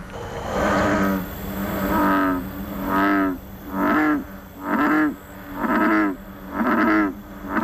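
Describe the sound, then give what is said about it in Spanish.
A series of deep, resonant American bullfrog croaks, about seven low booming calls repeating at a steady pace, loud, with no talking. “Jo us he portat el seu cant, perquè puguem escoltar el cant de l'única granota que estem contents que s'hagi extingit a casa nostra.”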